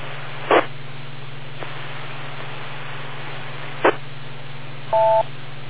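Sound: radio repeater beep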